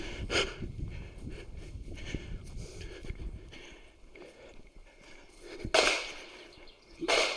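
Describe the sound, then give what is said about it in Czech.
A few gunshots from a busy shooting range crack out at irregular intervals, each a sharp bang with a brief echoing tail, over low outdoor rumble and no talking. “Dneska je tady nějak živo na té střelnici teda.”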